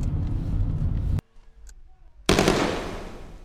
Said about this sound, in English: Wait a minute. Shit. Slow down. There's gunfire.